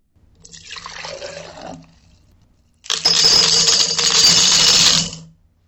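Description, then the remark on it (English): Water pours into a cup for about a second, then after a short pause a cupful of copper pennies is poured, a louder, bright metallic rush of clinking coins. “That time, you again heard a cup of liquid water being poured, but the second sound was a cup of copper pennies.”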